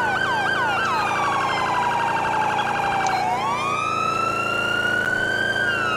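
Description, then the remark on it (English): An emergency vehicle's yelp siren wails loudly and continuously as the unit responds code 3 through a tunnel toward North Road, its pitch sweeping rapidly up and down before shifting into a slower rising and falling cycle, with steady background rumble. “I gotta fix the sirens. The, what's it called? The Yelp siren is slow than the Hyper Yelp.”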